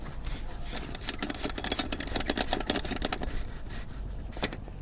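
boat engine idling

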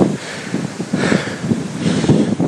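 wind

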